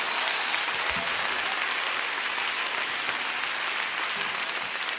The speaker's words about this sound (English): Clap your hands, everybody. Come on, clap your hands.